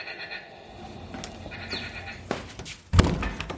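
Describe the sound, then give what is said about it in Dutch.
A door shuts with a single solid thud near the end on a cold, rainy day in early March, preceded by faint outdoor rustling and a few soft knocks and scrapes as it swings closed. “Zo, die deur is dicht.”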